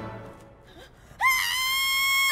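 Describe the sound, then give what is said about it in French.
After a brief quiet lead-in with faint murmurs, a loud, sustained high-pitched scream in a movie trailer bursts in and holds steady for over a second, piercing. “Ah, j'avais oublié que ça crie toujours à ce moment-là.”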